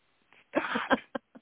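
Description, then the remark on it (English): A person imitates with their mouth a male dog wetly licking its balls: a sustained slurping smack followed by a few short, quick wet bursts, fairly loud. “I don't know if you ever had a male dog, but when they licking yes, the balls.”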